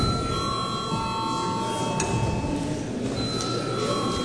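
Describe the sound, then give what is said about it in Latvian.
A chamber bell rings steadily for several seconds during a parliamentary sitting, calling deputies; a sustained bright electric tone that holds at an even, moderate volume over faint background noise, with no one speaking. “Paldies, lūdzu zvanu.”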